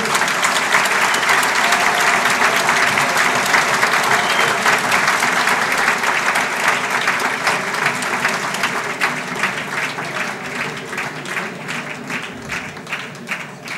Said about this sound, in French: Et je vous demande d'applaudir celui qui a beaucoup travaillé